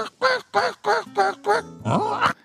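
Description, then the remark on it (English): A person imitates a duck, letting out a quick run of six nasal quacks followed by one longer, drawn-out quack, loud. “I like to do all different types. Bird calls.”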